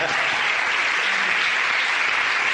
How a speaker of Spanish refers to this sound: Y pues ayúdenme a recibirlo con un fuerte aplauso a mi diamante.